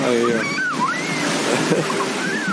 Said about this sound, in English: I have the mic on high sensitivity, which I never do, but just so you can hear the sound of the waves and the happy children sitting beachside in Bluffers Park. It's full of people, and it's just so nice to have a beach so close on Lake Ontario,